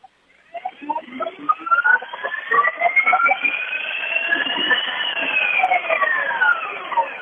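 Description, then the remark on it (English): A LiveWire electric motorcycle running on a small stationary dyno: a loud, high electric whine climbs in pitch as it spins up, then holds a steady tone over a rough lower rumble, with no talking. “And it's actually a live wire motorcycle on a little stationary dyno.”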